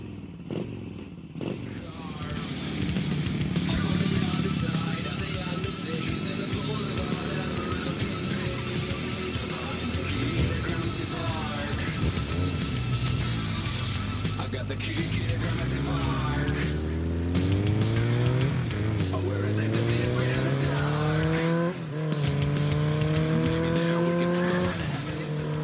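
Loud motorcycle engines rev and roar, their pitch sweeping up and down repeatedly, layered over a dense, busy backing of music with no speech.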